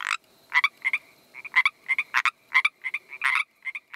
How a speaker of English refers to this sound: And since Vancouver is in the far southwest corner of the province, it can't be the boreal chorus frog. After a bit more Googling, I decided it must be the Pacific tree frog.